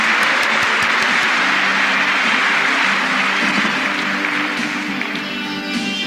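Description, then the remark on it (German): A studio audience applauds steadily for about six seconds, a dense, loud wash of clapping hands with a few sharper claps early on, fading slightly toward the end. “Jetzt kommt das Publikum nochmal.”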